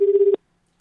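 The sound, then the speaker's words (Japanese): A short burst of telephone ringing, a steady pulsing electronic tone cut off abruptly by a click as it's answered, followed by near silence and a faint tap. “うん、あ、電話が。”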